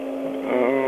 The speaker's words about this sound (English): It's like you're standing next to a motor or something.